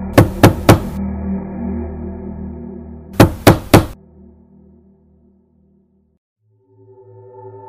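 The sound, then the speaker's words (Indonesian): Two bursts of three sharp, loud knocks on a door, a few seconds apart, over a low droning musical background that fades into near silence before soft tones return. “Tiba-tiba, ada yang mengetuk pintuku lagi.”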